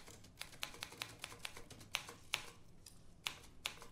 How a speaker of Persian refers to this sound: مجبوری انقدر با صدا تایپ کنی؟